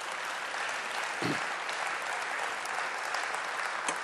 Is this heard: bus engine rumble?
no